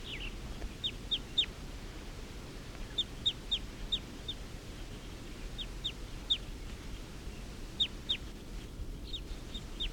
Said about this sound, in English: And the wild birds are up in the trees calling, like they're going to get ready to take off.